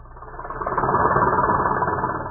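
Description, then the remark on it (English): A harvesting machine's engine runs steadily on a mechanized American farm with a dense mechanical rumble and a fast, rhythmic chugging clatter, fairly loud, swelling slightly and then holding. No voices. “Harvesting machines.”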